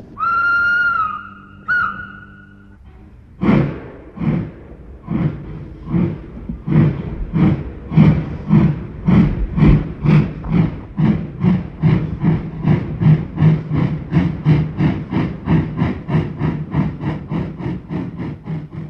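train departing with whistle

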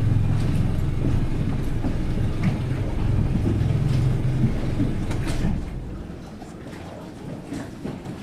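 boat engine running

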